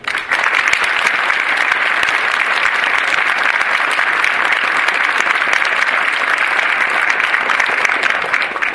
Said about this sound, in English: Please give them a round of applause as well. There's no way we can do it without you.